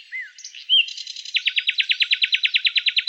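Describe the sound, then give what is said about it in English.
A nightingale sings alone: a few varied whistles and buzzy notes, then a loud, rapid rhythmic series of repeated high trilling pulses, no voices present. “Although the nightingale's song sounded best in the green wood, she went before the emperor and sang willingly.”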